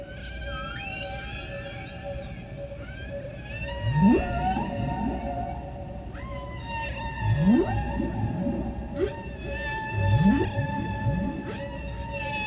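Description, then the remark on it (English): A whale sings a long, eerie song of rising whoops and sustained high tonal calls, with three strong upsweeping cries recurring every few seconds over a low rumbling backdrop, no voices present. “Then he swam off to the deep, still singing his song, as the sun settled slow and the shadows grew long.”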